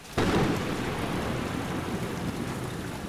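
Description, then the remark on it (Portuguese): A loud crack of thunder breaks in and rolls into a deep, sustained rumble, layered over the steady roar of heavy rain pouring down during the extreme rains in the state of Rio Grande do Sul, Brazil, continuous without any voices. “Desde o dia 29 de abril, o estado do Rio Grande do Sul está sofrendo com chuvas extremas, o que está sendo responsável por um dos maiores desastres climáticos que o país já viu.”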